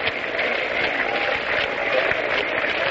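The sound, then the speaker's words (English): A ballpark crowd at a baseball game, with White at bat, claps in a loose, half-hearted patter, a steady wash of scattered hand claps with a faint murmur of voices, holding an even moderate level throughout. “Crowd is beginning a sort of a half-hearted hand clapping.”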